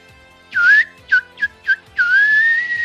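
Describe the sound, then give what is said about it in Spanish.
A person whistles in imitation of a canary's song: a rising chirp, three quick short tweets, then a long sustained rising whistle, clear with no talking. “A ver, emulá el sonido del canario.”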